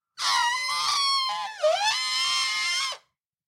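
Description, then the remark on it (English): A person trumpets like an elephant: one loud, brassy, high-pitched blare held for nearly three seconds, dipping and wavering in pitch midway before cutting off abruptly. “Pretty good elephant sound, huh?”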